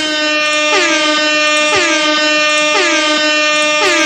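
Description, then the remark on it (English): A loud, sustained air horn blares continuously, its tone dipping and re-sounding in a repeating pulse roughly every second, with no voices present. “Oh yeah, hang on, let me count down an air horn.”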